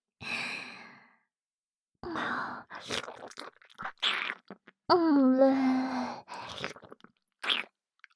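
gulping down a drink

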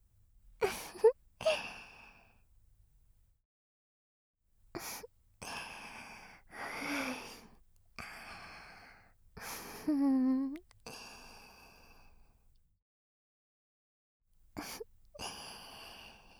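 heavy excited breathing

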